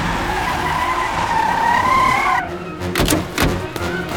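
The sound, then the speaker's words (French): A Stasi car skids to a halt in front of a house with a loud, sustained tire screech lasting about two seconds, followed by a few sharp thumps like doors slamming shut. “Une heure plus tard, cette voiture de la Stasi débarque devant la maison des Strelzik.”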